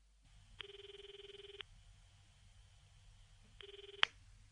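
A telephone ringback tone buzzes in two steady bursts, a long one and then a shorter one, cut off by a sharp click as an outgoing call to a person's home connects, over a low background hum.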